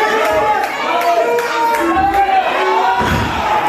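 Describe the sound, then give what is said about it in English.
A loud wrestling crowd chants "Holy ass" in unison over a steady roar, with scattered claps and shouts mixed in throughout. “I'm feeling the world's worst pain and I'm not hearing, as I'm feeling this pain, I'm not hearing the crowd chanting "Holy ass."”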